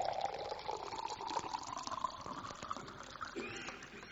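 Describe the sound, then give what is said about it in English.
Water pours steadily into a glass, filling it to the brim, the pitch rising gradually as it fills, a continuous trickling and gurgling sound with no talking. “And the pastor stood for a moment, and he took a glass and he took some water. He filled it up.”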